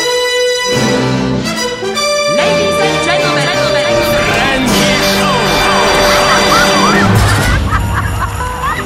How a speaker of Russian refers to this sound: Маэстро, отбивку и несемся дальше.